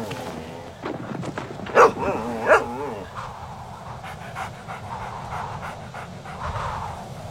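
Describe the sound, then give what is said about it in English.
Dogs pant steadily, with two sharp barks or yelps near the start standing out above the continuous breathy panting and a low background hum. “I haven't left you dogs long.”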